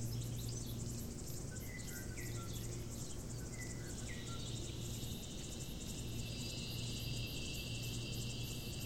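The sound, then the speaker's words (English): A bird gives a few short, quick chirping notes early on, set against a steady, shimmering drone of insects and a low background hum that continues throughout. “Sometimes just the front gesture of the call, piata tito, and then piata tito tito.”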